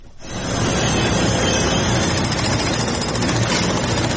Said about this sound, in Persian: تقریبا 5 شبانه روز است که صدای ماشین‌آلات و ابزار نیروهای امدادرسان در شمال سوریه و جنوب ترکیه قطع نمی شود.